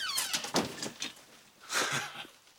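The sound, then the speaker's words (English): A door creaks on its hinges and swings shut as a woman closes it, followed by a few soft clunks and a second rustling push against the frame, with no voices. “Smiling, she closes the door.”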